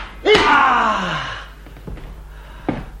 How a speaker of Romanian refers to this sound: Te-ai speriat de ușă deschisă.